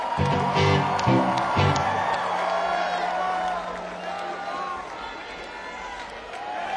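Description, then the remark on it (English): A concert crowd applauds and cheers as special guests come on stage to join Wayne and the Lips, in a dense, steady wash of clapping and shouts that lasts several seconds and eases off slightly toward the end, with some low tones underneath at the start. “Give them a round of applause coming out.”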